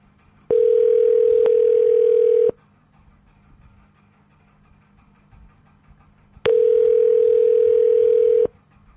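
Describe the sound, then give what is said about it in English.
Two long, steady electronic telephone tones, each lasting about two seconds with a pause of several seconds between them, as a call to the Franklin Township Police Department in Somerset County, New Jersey, is transferred. No voices. “Wait while I transfer your call.”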